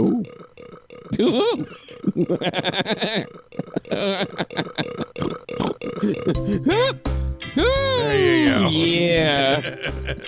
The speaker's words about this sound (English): So, a pair of news anchors in North Carolina began laughing hysterically after one of them let a belch slip out on air.